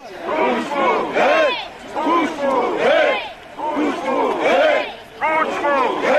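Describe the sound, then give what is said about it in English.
A large crowd of angry demonstrators chants together in the streets of Kiev, Ukraine, protesting the murder of a journalist. Loud, rhythmic bursts of many voices rise and fall in repeated phrases with brief pauses between each shout, sounding energetic. “Crowds of angry demonstrators took to the streets of the Ukrainian capital Kiev just over 10 years ago, following the news that one of the country's most popular journalists had been murdered.”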